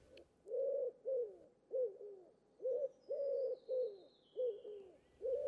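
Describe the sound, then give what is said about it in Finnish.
A pigeon coos steadily in a soft, rounded series of about ten throaty calls with brief pauses, fairly loud, while a faint high whistle-like tone slides slowly downward in the background. “Kesykyyhky, eli tavallinen pulu, periytyy kalliokyyhkystä, joka oli Raamatun aikana arvioiden mukaan yleinen lintu Israelissa.”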